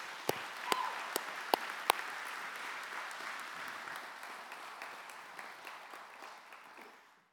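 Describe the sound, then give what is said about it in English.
Sustained audience applause, a dense crackle of many hands clapping with a few sharp louder claps early on, holding steady before tapering off at the end. “Would you guys give her a round of applause?”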